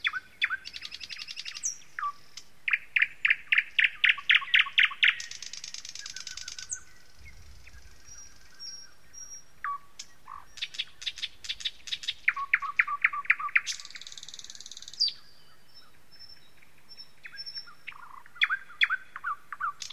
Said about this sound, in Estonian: Kas ei laula ööbik lõppude lõpuks meile kõigile?